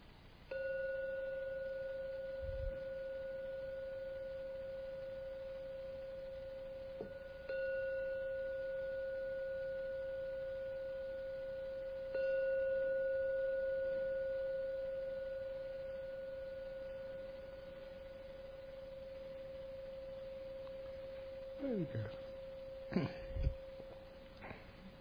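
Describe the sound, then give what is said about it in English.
A gong is struck three times to close a meditation, several seconds apart, each strike renewing a steady, pure ringing tone that sustains and slowly fades. A few soft bumps follow near the end. “I'm now going to ring the gong three times. Please listen to each sound of the gong.”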